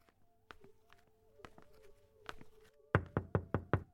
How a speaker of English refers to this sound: Feeling overwhelmed and underdressed, I tapped the front door tentatively.